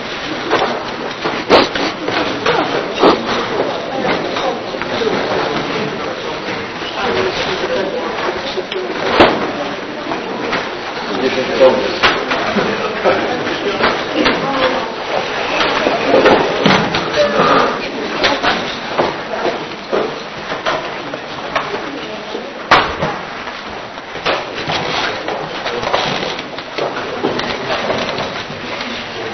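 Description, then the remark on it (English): Chairs scrape, knock and clatter as a group of people drag several chairs into place and set them down across a room, a continuous busy shuffle of wooden bumps and slides with no talking. “Na początek zaczniemy od krzeseł, tak? Więc wszyscy użyjcie krzeseł.”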